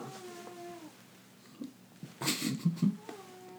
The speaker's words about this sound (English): Aww. That is a kitten snore. Look at them. They look like two little pandas.